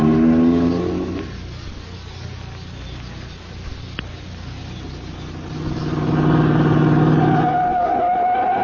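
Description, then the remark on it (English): A car engine revs loudly, eases down for a few seconds, then surges again as the vehicle accelerates away. No voices are heard. “All right, in the car, you two. Hurry it up.”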